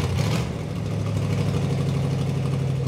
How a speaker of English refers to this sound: any given Friday night, amid the glow of stoplights, fast food franchises, and international grocery stores, you can see cars and trucks modified with neon lights, spinning rims, and streamlined spoilers strutting from north to south and back again.